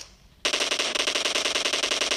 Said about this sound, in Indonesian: Aya nembakan jauh.